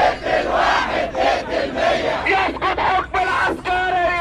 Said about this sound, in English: Most of the people who marched to Tahrir Square shouted slogans against Egypt's ruling generals. They were demanding a quick and complete handover of power to a civilian government.